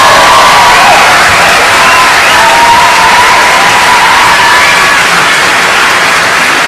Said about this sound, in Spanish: Bueno, mi gente, dame la bienvenida oficial a Xavier Maldonado. Acaba de llegar a hacer su aparición aquí. Oye, mi gente, un aplauso a Xavier.